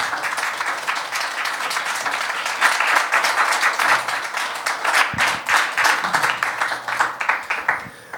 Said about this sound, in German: Ja, Applaus ist total angebracht.